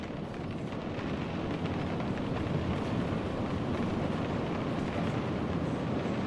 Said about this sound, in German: Ein weiterer Pfiff ertönt und langsam kommt der Zug ins Rollen.